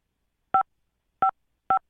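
Three short electronic keypad beeps as the five key is pressed on a phone, each a brief dual-pitched tone, spaced unevenly with silence between them and no voices.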